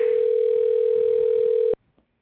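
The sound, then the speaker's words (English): A telephone ringback tone sounds on the line as a call is placed: one loud, steady, mid-pitched hum held for nearly two seconds, then cut off abruptly into near silence. No one speaks. “Was it ringing?”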